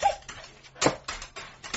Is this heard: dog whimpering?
yes